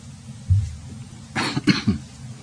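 A short fit of coughing from a man with a lingering winter cough: two or three harsh, rapid bursts in quick succession, with no talking around them.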